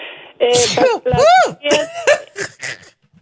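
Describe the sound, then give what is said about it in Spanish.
A series of loud sneezes in quick succession, caused by construction dust, each with a drawn-out voiced lead-in and a sharp burst, trailing off into quieter ones. “El polvo que hay por aquí con la construcción me dio estornudo.”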